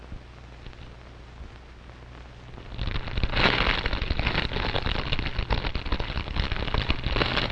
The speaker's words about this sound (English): Now, how about a nice crackling fire in the fireplace?